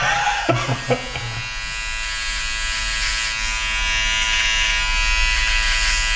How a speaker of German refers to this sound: Du rasierst mich auf der Nase, ist ja der Hammer.